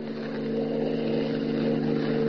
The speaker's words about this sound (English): Planting himself in the middle of the only road leading from the Sudbury Airport, Superman waits for Hans Holbein's car to come along. His keen hearing detects an approaching motor, and he stands at rigid attention, every rippling muscle tense.